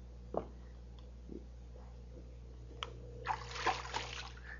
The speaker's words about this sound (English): Oh, I'm not going to get in because there's water in here. But this is a baptismal tank.